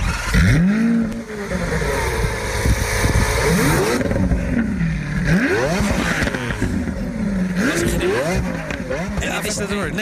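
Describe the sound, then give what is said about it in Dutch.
A Lamborghini Aventador V12 supercar engine, the 10,000th Aventador built, revs hard several times, pitch sweeping up and dropping back in repeated bursts, loud over a steady rumbling idle. “Dus dit is echt het geluid. Ons eigen geluid.”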